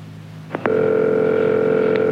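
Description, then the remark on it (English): A couple of sharp clicks on a phone line as a man calls a couple he doesn't know, then a steady, loud electronic ringing tone from the handset earpiece that holds unbroken to the end, with no voices. “You will hear a phone conversation. A man is calling a couple he doesn't know.”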